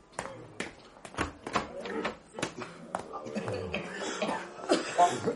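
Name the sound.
coughing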